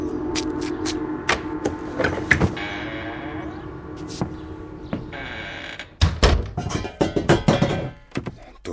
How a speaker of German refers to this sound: Jetzt schlagen sie die Gongs, aber bald werden sie die Gongs nicht mehr schlagen.